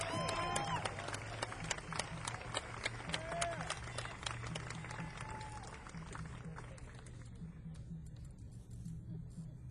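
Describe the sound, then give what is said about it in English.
An audience at a jazz concert applauds the band and its leader as the group is introduced, with dense, crackling clapping and scattered cheers over a low steady hum, the ovation thinning out toward the end. “and coming back home, coming round the applause, the leader of this group, …”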